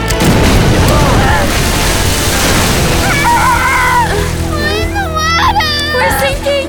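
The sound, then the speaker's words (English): A car, forced off the road, crashes into lake water with a loud, roaring splash and churning rush lasting a few seconds, then high, wavering cries rise over the settling water. “The lake is right there. I can't stop it.”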